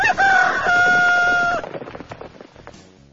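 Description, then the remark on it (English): Chickens clucking: a loud, drawn-out crowing call gives way to a scatter of short, choppy clucks that gradually fade, with no one talking. “As his eyes adjusted to the light, he thought for a moment he saw chickens. Hundreds of chickens, all covered in blood.”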